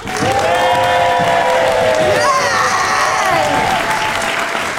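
A live show audience applauds loudly and steadily to vote on which side of a debate is in the right, with dense clapping throughout and shouts, whoops and cheers rising above it, especially in the second half.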